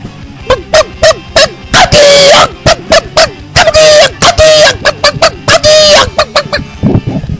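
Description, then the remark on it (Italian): A human voice imitates an agitated hen in a radio bit called the Angry Hen on Radio Bandiera Nera Liguria, firing off rapid, loud clucks and longer squawking bursts in an uneven, frantic rhythm, with no other talking. “adesso si esibirà nella Gallina Incazzata.”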